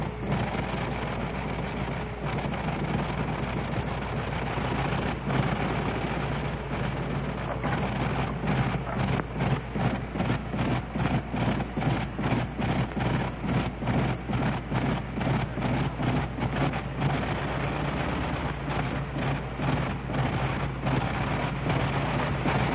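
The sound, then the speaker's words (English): A big 425-horsepower Liberty aircraft piston engine runs steadily after starting, a loud, rough rumbling drone with rapid rhythmic firing pulses that quicken slightly as it warms up, no talking over it. “I'm going to let you turn up your gain, turn up your receiver gain, and you can hear the sound of these 425 horses on this great Liberty engine.”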